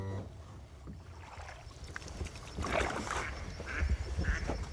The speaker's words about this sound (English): Williams raises the motor and pulls the boat into a marsh at the head of the inlet.